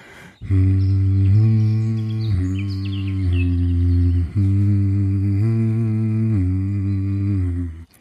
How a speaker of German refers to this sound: Und dann einfach summen. Wenn euch das zu langweilig ist, dürft ihr natürlich auch in Tönen summen.